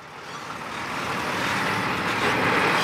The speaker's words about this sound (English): There's another huge truck.